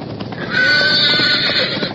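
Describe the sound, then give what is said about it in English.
A roan horse whinnies loudly and shrilly after a splinter from a lightning-struck pine tree spears its hip, a sustained, strained neigh lasting a couple of seconds with faint hoof sounds beneath, no talking. “One of them speared the hip of the roan horse.”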